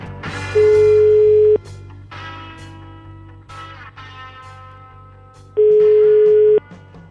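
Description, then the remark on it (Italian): A telephone ringback tone sounds twice, each a loud, steady one-second beep separated by a pause of about four seconds, with a busy musical backdrop continuing underneath. “Chiamate, dai. Fate squillare, vai!”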